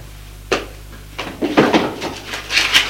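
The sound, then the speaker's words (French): A sideboard cupboard door is opened with a sharp wooden knock, then a few soft clatters and rustles as a woman takes out a pen holder and a bottle of black India ink, with no talking. “Elle va prendre dans le buffet”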